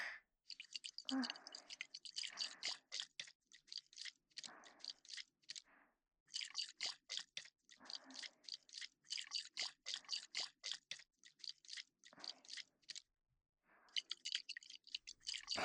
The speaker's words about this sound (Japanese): いい音でしょ？これは赤ちゃんのお肌にも優しいベビーオイルです。これをあなたの耳につけて、耳を潤わせつつ、たっぷりマッサージです。